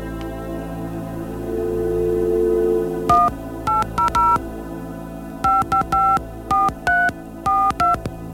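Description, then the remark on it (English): A phone number is dialed on a touch-tone keypad: a quick run of clear, close beeping tones in two bursts with a short pause between, over a low steady hum. “they began with an episode of his program called Rent a Family, in which a woman named Eleanor phones her ex-husband, Arthur, who's remarried.”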